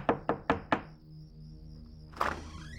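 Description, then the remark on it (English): Four firm knocks by a policeman on Walter Liggett's door on June 23, 1935, in a quick, even rhythm, followed by a pause and then a short creaking sound as the door seems to open. No one speaks. “Almost exactly 7 months later, on June 23, 1935, Walter Liggett answered the door to find a policeman standing there.”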